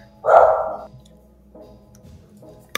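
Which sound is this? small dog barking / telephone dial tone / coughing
small dog barking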